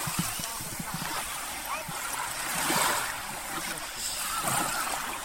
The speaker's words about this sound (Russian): Но послушаем, как шумит море.